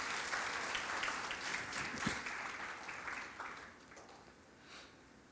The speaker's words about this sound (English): It is a privilege to be part of this great work. Can we give the Lord a clap of praise?